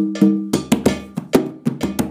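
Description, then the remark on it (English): A bell is struck about nine times in a quick, uneven rhythm, each loud metallic clank leaving a short ringing tone before the next hit. No one speaks. “Against the bell so you can hear them.”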